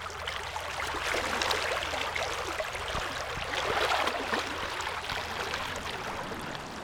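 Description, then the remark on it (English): Clear Creek in Fayetteville flows steadily with a broad, bubbling rush of water, while a low, constant rumble of traffic from the Highway 112 bridge over the creek hums underneath throughout. “The sounds of traffic can be heard from below. But that doesn't distract from the flowing waters”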